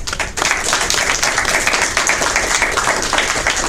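A crowd applauds steadily, many hands clapping in a dense, even wash of sound that stays loud and sustained throughout, with no voices standing out.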